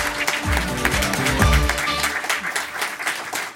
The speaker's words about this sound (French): Vite, applaudissez Jonathan Curiel qui est avec nous ce matin sur Europe 1.